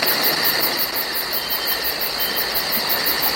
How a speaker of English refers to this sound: That sounds almost like a tropical forest.